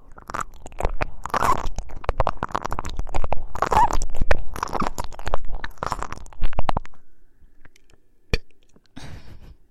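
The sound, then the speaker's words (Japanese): A light, low, rumbling burp made right at the ear during ear-licking ASMR, amid a run of wet, crackly mouth noises, ending in a brief quiet stretch with a few isolated clicks. “ゲップしちゃった。”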